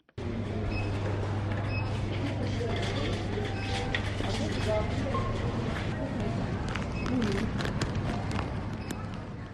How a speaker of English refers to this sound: The beeping sound is that of goods being scanned by a till operator in a supermarket.